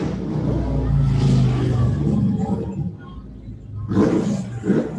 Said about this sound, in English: Sounds like freedom. Like, yeah, some motorcycles. They're apparently having fun and feel everyone should hear them.